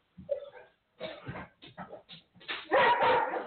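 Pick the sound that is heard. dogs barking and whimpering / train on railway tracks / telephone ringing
dogs barking and whimpering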